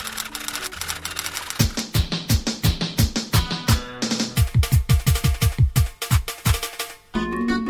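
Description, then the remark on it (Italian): Rapid, rhythmic, loud clacking of fingers on a keyboard, set against a punchy musical backing with deep thumping beats. No one speaks. “Dite sulla tastiera.”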